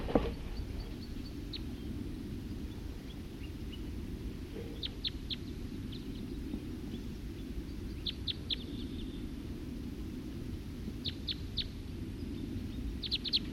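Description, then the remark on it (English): A wild bird calls in brief clusters of three or four high, thin chirps, repeating every few seconds over a steady low rumble of background noise. “Recording a wild bird.”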